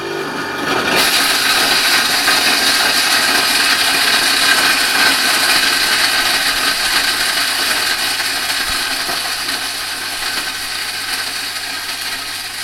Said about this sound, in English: we're now recording the destruction of a glass jar in the incinerator. So a glass jar has been put rim down in the incinerator.